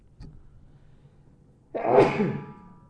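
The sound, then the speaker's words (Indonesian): A single loud sneeze bursts out after a quiet pause, a sharp noisy blast that trails off over about a second; a small click or breath comes just before it. “Alhamdulillah. Yahdikumullah islihu balakum.”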